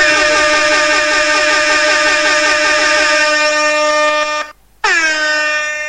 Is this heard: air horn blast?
yes